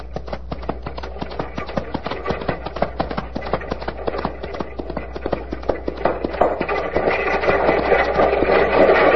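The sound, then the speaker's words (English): A horse gallops hard, its hooves pounding in a rapid, steady rhythm, with a rushing background noise that swells toward the end. “Take it, Thunder. Come on, Thunder. Go it, boy.”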